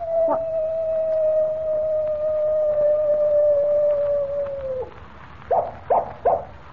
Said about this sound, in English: Holy mackerel, Mr. Kent. Did you hear that? I certainly did, Jimmy. It was a coyote, and here it comes now. Well, I'll be... Why, it's a real coyote.